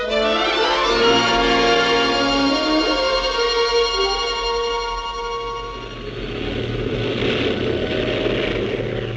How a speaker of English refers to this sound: Streeter's plane took off into the sunset. I stared at the place in the sky where he was vanishing into the world outside